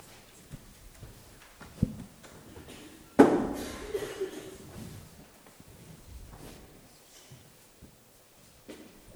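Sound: door closing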